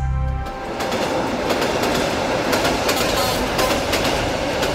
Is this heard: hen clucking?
no